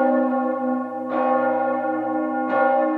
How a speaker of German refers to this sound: Zum Beispiel können bereits feinste Risse dafür sorgen, dass sich ein Ton aufspaltet in zwei Töne mit leicht unterschiedlicher Frequenz. Die Folge: der Glockenton beginnt zu schweben.